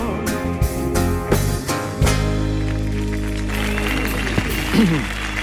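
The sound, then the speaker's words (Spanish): A crowd at the Auditorio Cartuja applauds and cheers steadily, welcoming a guest onto the comandante Lara show: a dense wash of clapping with a few sharper bursts, while sustained tones and voices hum underneath. “Recibamos con una ovación atronadora que se caiga para abajo el auditorio Cartuja, porque está aquí con nosotros esta noche en el show del comandante Lara”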